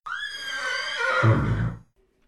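A single loud horse whinny from Jolly Jumper, Lucky Luke's horse, being called by Lucky Luke: a high quavering neigh that slides downward and ends in a low, rough snort before cutting to silence.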